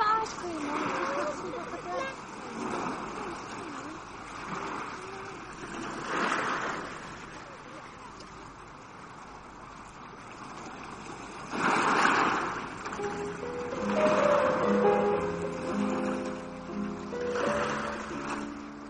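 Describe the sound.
Sea waves wash onto the shore in repeated surging swells, rising and falling every few seconds with a steady hiss between them, while faint voices murmur briefly toward the end.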